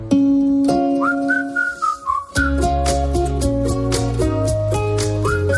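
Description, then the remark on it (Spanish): A whistled melody glides and wavers over a steady instrumental backing, then the band carries on with rhythmic chords and a brief whistle returns near the end. “No voy a silbar porque no sé. Yo creía que eras tú.”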